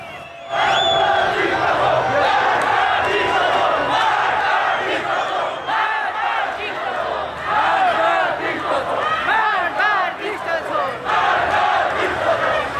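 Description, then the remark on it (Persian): A large protest crowd in Karaj chants slogans, including "Death to the dictator," in unison on a Wednesday evening, loud and continuous, with many overlapping voices rising and falling in rhythmic shouted phrases throughout. “در تصویرهایی که بر روی شبکه‌های اجتماعی منتشر شده، شعارهایی از جمله مرگ بر دیکتاتور شنیده می‌شود.”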